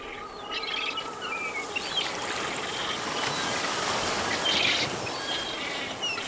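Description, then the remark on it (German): Albatrosses call intermittently at a nesting colony on Tairoa Head, a dozen sitting on their nests while others waddle through bushy grass; scattered cries rise over a steady, breezy rush of wind and surf that fills the background throughout. “Ein Dutzend Tiere sitzt auf ihren Nestern, andere tapsen durch das buschige Gras.”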